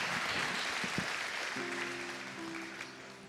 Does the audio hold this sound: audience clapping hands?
yes